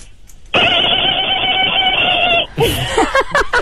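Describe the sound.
A person imitates a dolphin with a loud, steady, high-pitched squeal held for about two seconds, then breaks into a quick run of choppy, clicking chatter.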